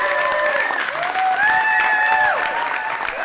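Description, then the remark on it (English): A crowd in Wisconsin applauds and cheers as Governor Evers signs a bill into law as Act 94: steady, dense clapping for a few seconds mixed with loud whoops and high, sustained cheering voices rising above it. “He literally signed it, and people started applauding and yelling for joy, as they should.”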